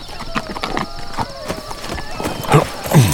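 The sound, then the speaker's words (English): Horse hooves clip-clop at an unhurried walking pace, the sharp knocks evenly spaced, with a faint voice murmuring underneath: Bowman's horse, with his lifeless body draped over the saddle, being taken home. “Morgan had draped Bowman's lifeless body over the saddle of the man's horse and taken him home.”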